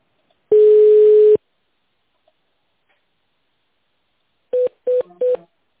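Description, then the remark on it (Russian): Telephone touch-tone dialing of an extension in tone mode on a company's automated phone line: one long steady electronic tone, then after a silent pause three short, quick beeps in a row. No voices. “Или наберите добавочный номер в тональном режиме.”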